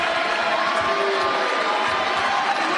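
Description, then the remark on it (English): The crowd at Newman Arena rises to its feet, cheering and roaring steadily at 24-20, with four set points for the Jimmies: a dense, loud wash of voices and applause that holds at full volume throughout, with a few brighter whistles and shouts poking through. “24-20, Newman Arena rises to their feet.”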